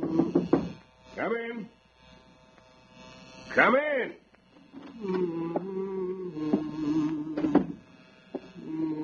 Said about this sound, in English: I'll be finished shaving in a second.